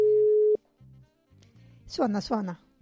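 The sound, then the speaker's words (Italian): A steady telephone ringing tone of an outgoing call to a guest sounds clearly for about half a second, then cuts off; low muffled line pulses follow before a voice comes on the line. “Suona.”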